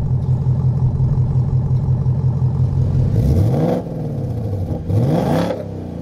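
A V8 engine burbles at a low, steady idle, then revs hard twice, each sweep rising into a loud roar before falling back. No one speaks.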